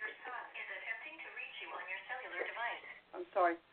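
A tinny, narrowband automated phone voice announces in one short spoken phrase, about four seconds, that the listener's son is trying to reach them on their cell phone, with no ringtone tones.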